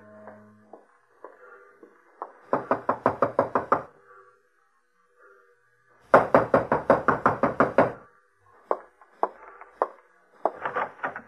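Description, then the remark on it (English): Two loud, rapid bursts of knocking on the door of a room at 6 o'clock, each a quick run of about eight sharp raps, followed by a few scattered knocks and softer rustling between them. “It was Angela's time, 6 o'clock, when I heard him on the stairway outside my door.”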